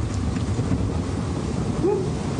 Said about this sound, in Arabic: صار لك شي من صوت الرعد؟